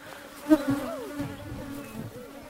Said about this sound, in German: Einige Bienen wurden aufgescheucht.